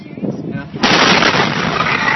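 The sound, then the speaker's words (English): A huge explosion of a fertilizer chemical storage facility in the small Texas town of West erupts abruptly after a quiet, murky stretch, its blast hitting at full loudness and rolling on as a dense, roaring wall of noise that doesn't fade before the end. “Well, it was 1 year ago this week when a fertilizer chemical storage facility exploded in the tiny Texas town of West.”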